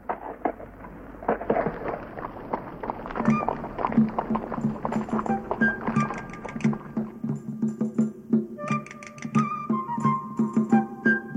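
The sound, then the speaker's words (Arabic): A horse's hooves clip-clop in a steady, rhythmic trot, moderately loud, with a sustained tonal backdrop running beneath the hoofbeats. “والآن هيا، الحصان جاهز ينتظرنا.”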